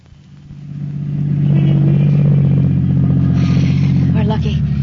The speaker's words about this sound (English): Parking space. All right, pull in. Now turn off the motor.